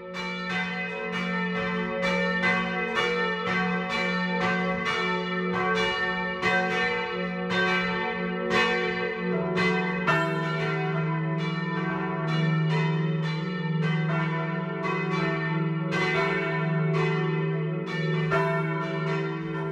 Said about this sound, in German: Es ist 12 Uhr. Das Mittagsläuten kommt heute aus Fraßdorf im Chiemgau.